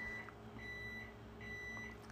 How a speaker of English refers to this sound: And I think that timer, I don't know if you guys heard it, I think that's telling me that it's time to let the interview go.